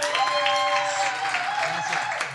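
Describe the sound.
Steady, dense applause from an audience, loud and sustained throughout, with a few voices cheering faintly over the clapping.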